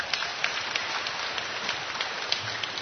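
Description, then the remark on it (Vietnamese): A parish audience applauds, a dense, steady wash of many hands clapping at once with scattered sharper claps standing out, holding at an even level for about three seconds with no voices. “Chúng ta cho một tràng pháo tay coi.”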